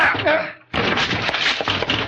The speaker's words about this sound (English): They shut me out and locked the door! Let's break it down. Come on, California! Both together now!